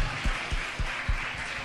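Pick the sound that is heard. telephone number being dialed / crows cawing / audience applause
audience applause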